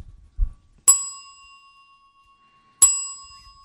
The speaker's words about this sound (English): That was two brotherhoods there. That means I get to ring the brotherhood bell twice.